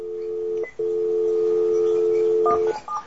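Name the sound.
telephone number being dialed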